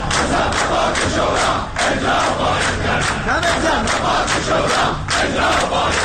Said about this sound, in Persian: بازنشستگان در خیابان‌های شهر بر عزای سفره‌های خالی نشستند و برای احقاق مطالباتشان مصوبات شورای عالی کار را فریاد می‌زنند.